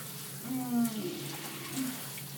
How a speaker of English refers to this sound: something like a hot shower. Like a far too hot shower. Oh, God.